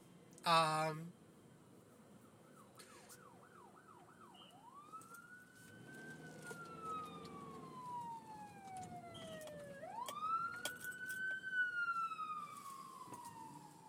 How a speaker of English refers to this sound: But, oh, look, a police car went by. That's why I was, you know, quiet for a second, because I had to, like, scooch over to the side and let them pass.